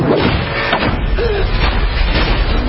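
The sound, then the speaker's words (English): A heavy door bangs shut with loud, booming thuds amid a dense wash of rumbling noise that fills the whole moment, forceful. “Wow, that's an expensive door.”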